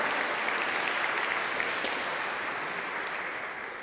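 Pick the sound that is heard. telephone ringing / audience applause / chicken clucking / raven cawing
audience applause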